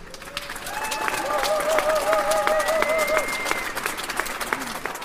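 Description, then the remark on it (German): A large crowd of spectators, gathered in the rain and roughly as many Germans as Turks, whooping and cheering loudly, with rising shouts and dense clapping filling the space, sustained for several seconds before easing slightly. “Die Menge johlt.”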